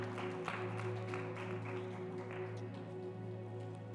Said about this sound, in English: Clap those hands and honor the Lord in this place.